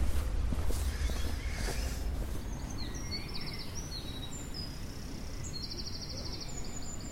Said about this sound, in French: Concert de bestiaires au camping pour oiseaux nocturnes de toutes sortes.